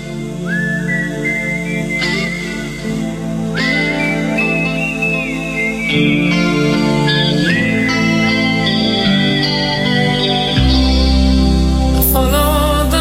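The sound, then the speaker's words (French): A clear whistled melody glides in long sustained notes over a full rock band backing of guitars, bass and drums, steady and loud throughout, with no voices. “Oula, ça va siffler là.”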